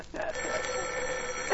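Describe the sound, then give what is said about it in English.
A telephone bell rings in one long, unbroken burst lasting over a second, fairly loud, with no one speaking over it. “Oh, let it ring. Let it go on ringing. It's a trick of some kind. I won't answer it.”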